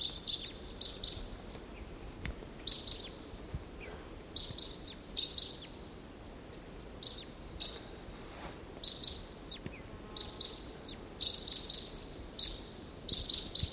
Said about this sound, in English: those two wild birds are calling from the treetop, and there's no way of telling which one is which.